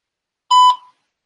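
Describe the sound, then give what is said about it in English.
A single short voicemail beep sounds once, a clear steady electronic tone lasting under half a second, heard alone against silence. “Got a voicemail here. Waiting for the beep.”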